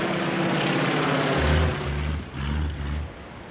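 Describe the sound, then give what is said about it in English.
A small plane's engine drones steadily and loudly throughout, its low hum swelling and dipping in a few uneven pulses beneath a rough, buzzing roar, with no voices. “Cut his engine.”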